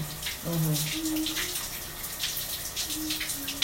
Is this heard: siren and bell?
no